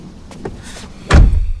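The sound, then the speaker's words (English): A car door swings shut with a heavy, loud thump and a low rumbling tail as someone gets out of the car, preceded by a couple of faint clicks from the handle and latch. “He gets out of the car.”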